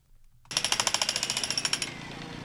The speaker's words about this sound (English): Jackhammers drilled away at cracks in the cement as Councilman Bernard Parks welcomed guests and neighborhood residents to watch the repair.